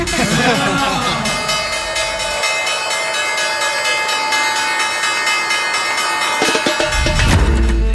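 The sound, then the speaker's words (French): A bell rings loudly and continuously for several seconds, a bright, sustained metallic clang, with a low rumble rising near the end, rung to mark the closing of the market. “La cloche, la fermeture du marché”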